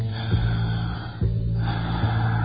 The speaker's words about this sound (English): Breathing.